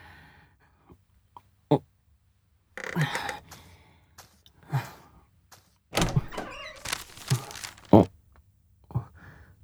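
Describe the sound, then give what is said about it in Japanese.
A neatly folded paper memo is opened up, with a string of crisp rustles and crackles in uneven bursts, the loudest near the end, and no talking. “綺麗に折りたたんであるけど、こんなの扉に挟んでたっけ？”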